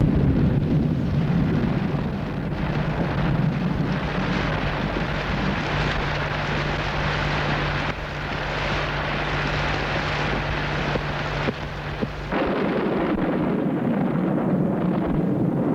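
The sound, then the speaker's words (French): A heavy, continuous rumble of thunder and storm rolls on at high volume, a dense, deep roar that barely lets up from start to finish, with no voices. “Tout à coup, le tonnerre, l'orage éclate.”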